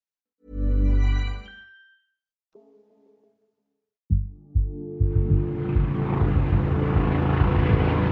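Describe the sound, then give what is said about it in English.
At dawn over the Jacarezinho favela in Rio de Janeiro, during a police operation against drug traffickers, a helicopter roars overhead, its heavy rotor thrum and engine noise swelling in and holding steady and loud, after a short deep tonal blare and a faint hum. “At dawn on May 6th, residents of Jacarezinho, a favela in Rio de Janeiro, awoke to the sound of helicopters and gunfire.”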